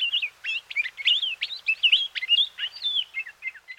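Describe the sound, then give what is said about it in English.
A Hawaiian honeycreeper sings a rapid, continuous stream of high, warbling chirps and trills, clear, with no other sounds or voices. “In a stunning example of natural selection, birds called honeycreepers evolved to fill many different roles in Hawaiian ecosystems.”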